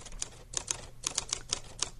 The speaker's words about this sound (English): Oh, it's a typewriter. Yeah, they're easy. Those are easy ones, right?